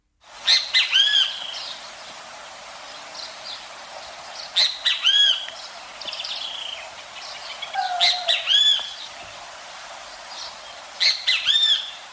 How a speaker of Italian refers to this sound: C'è un altro uccello del quale è il caso di ascoltare il canto, ed è il benteveu